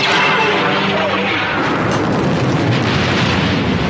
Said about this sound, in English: It's so crazy with the thunder and the lightning.